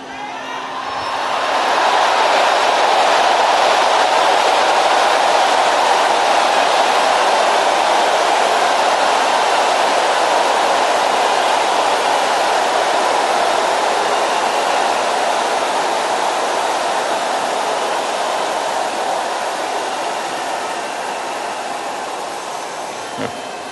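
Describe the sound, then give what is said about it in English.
A loud, broad jet-engine roar of an aeroplane taking off swells up within the first couple of seconds, then holds as a steady rushing drone that slowly eases toward the end. “When an aeroplane is about to take off, there is noise.”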